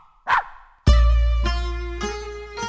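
A single short dog bark sounds, then loud sustained piano-like chords ring out and decay, with a few more struck at steady intervals.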